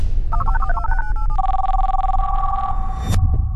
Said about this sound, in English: I hear the phone ring.